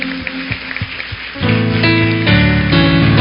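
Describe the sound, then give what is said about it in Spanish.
A church audience applauds the Lord with dense, steady clapping, and partway through, sustained musical chords swell in and carry on loudly beneath the continuing applause. “El que lo crea, que le aplauda al Señor con todas sus fuerzas.”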